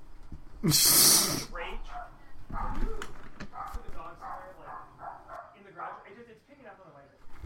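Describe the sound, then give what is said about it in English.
A dog gives a sharp, loud bark near the start, followed by quieter muffled voices and faint rustling as people talk in the background. “I hear a dog barking.”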